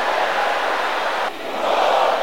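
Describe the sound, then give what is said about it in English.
A dense roar of many voices, an audience shouting a prayer aloud together in unison, loud and sustained, briefly dipping before surging back even stronger, with no individual words standing out. “Shout it again loud and clear. Shout it with a louder voice.”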